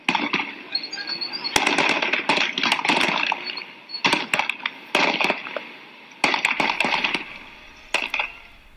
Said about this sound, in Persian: گزارش‌ها حاکی از وقوع درگیری میان شهروندان معترض و ماموران نیروی انتظامی است. در برخی ویدیوهایی که در شبکه‌های اجتماعی از جمله صفحه توییتر روزنامه مردم سالاری منتشر شده، صدای تیراندازی شنیده می‌شود.